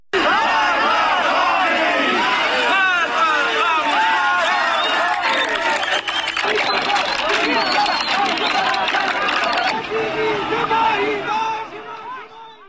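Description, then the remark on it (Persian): A large crowd of street protesters in Zahedan shouts slogans in unison, such as "the nation wants freedom", many voices rising and falling in a loud, rhythmic chant that carries steadily before trailing off at the end. “همه این جمعه ها بعد از صحبت های عبدالحمید شروع به سر دادن شعارها میکنن، به خیابون ها میان با پلاکارد هایی که در دست دارن شعارهایی رو میدن نظیر ملت آزادی میخواد، کشور آبادی میخواد.”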